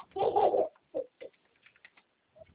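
A baby babbles while playing: one loud, drawn-out cooing vocalization, then a scattering of short, softer squeaky syllables with brief pauses between them, and no other voices.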